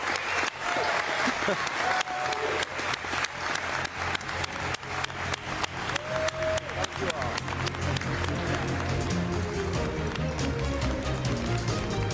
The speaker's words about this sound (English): And as we go, this crowd has been so respectful, so now's your time to cheer and thank everybody here. This is the time to clap. Thank you all for being fantastic.